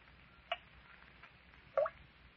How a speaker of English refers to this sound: Do you hear that? That steady drip. Drip of water. Yeah, I hear it. It ain't surprising to hear water dripping in an underground cavern.